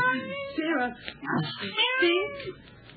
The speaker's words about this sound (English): Look out, the cat. Columbus. Stop that, you bad cat.